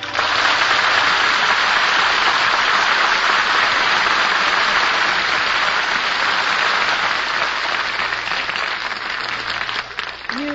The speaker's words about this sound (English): Deserve that applause